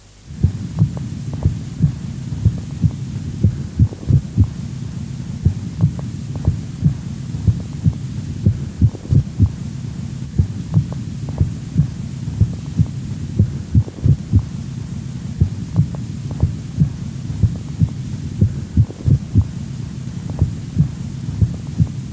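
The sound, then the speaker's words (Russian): A steady heartbeat with extrasystoles thuds through a stethoscope, its regular rhythm occasionally broken by a single premature beat followed by a compensatory pause, over a low continuous hum with no voices. “При экстрасистолии на фоне правильного ритма слышны одиночные преждевременные сокращения сердца, после которых следует компенсаторная пауза.”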